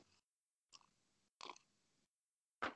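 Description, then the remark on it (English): Wet gulping as a shot of Pink Whitney on ice goes down, drunk from a glass bigger than a shot glass: four short throaty swallows separated by brief silences, the last one the loudest, with no one talking. “Oh, I took a gulp.”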